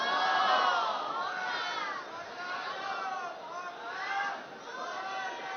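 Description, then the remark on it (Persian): A crowd cheers and shouts continuously, many overlapping voices rising and falling, with a swell in the middle and another near the end, over a steady wash of noise that may include clapping, as an audience responds to a cash prize being handed out. “ما اگه میدونستیم شما با جایزه اینقدر تشویق میشید از اول پول میدادیم به جان خودم.”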